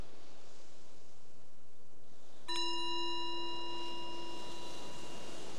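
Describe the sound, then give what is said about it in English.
After a few seconds of soft hiss, a meditation bell is struck once, its clear, shimmering tone ringing out and slowly fading over about two seconds. “So the bell is the invitation to bring the awareness back to the surface, to your surroundings, and just reflect on what you might have noticed during that exploration, if there was anything useful.”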